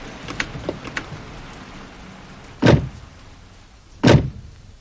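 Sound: car arriving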